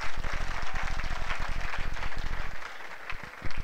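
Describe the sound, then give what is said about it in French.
An audience applauds steadily, dense clapping that stays loud and continuous throughout, with many hands blending into a broad wash of sound and no talking. “Oui, vous pouvez applaudir, applaudissez.”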